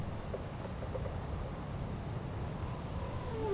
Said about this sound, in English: What's that? They're whales. Whales? Where?